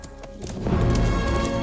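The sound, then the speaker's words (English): A black horse gallops away, its hooves pounding in a quick, rhythmic clatter, building from moderate to loud within a second or two, with a rumbling low-end thud under each beat. “as the black horse gallops away.”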